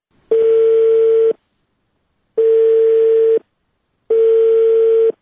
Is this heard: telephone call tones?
yes